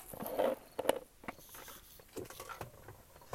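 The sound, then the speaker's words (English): Someone sips H2 Infinity water from a plastic water bottle: a few crinkling, clicking handling noises, then soft irregular slurps and swallows, all fairly quiet with no talking. “I really want to take a sip of this H2 Infinity water because this is what I need to quench my thirst right now.”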